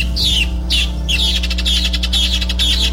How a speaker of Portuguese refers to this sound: Olha aí, na roça a gente acorda com esse som desse pássaro mesmo, né? Cantando.